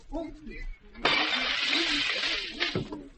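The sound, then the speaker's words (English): A chair smashes through a locked window pane with a sudden loud crash, followed by over a second of bright, scattering glass shards and one more sharp crack. A man speaks just before the impact. “Yeah, the window's locked, isn't it? Here, give me that chair.”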